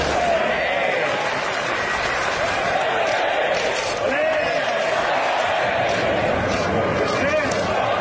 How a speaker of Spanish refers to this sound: Olés y aplausos para Diego Urdiales, que esta pasada madrugada ha cuajado una gran faena en su confirmación de alternativa en la Monumental de México.